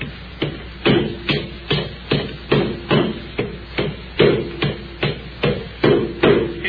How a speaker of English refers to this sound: I get you a skinny leg in that board and hold it while they're driving them nails.